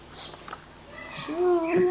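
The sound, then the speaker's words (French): A person imitates an owl's hoot with a drawn-out, wavering 'ooh' sound, clear, following a moment of faint, soft background noise. “Ouh, ouh, ouh. Ah, c'est toi qui m'appelles, demande le petit hibou.”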